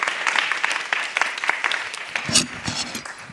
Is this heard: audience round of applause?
yes